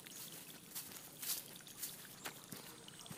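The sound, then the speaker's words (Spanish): A canoe paddle dipping into the water of the Amazon River before dawn, a man paddling by the strength of his arms with no motors, soft splashing strokes coming about every half second over a faint hiss of jungle sounds, quiet, with no voices. “el hombre, de un poco menos que unos 50 metros de estatura, se dirige a la canoa en la que día a día sale a recorrer las orillas del río Amazonas.”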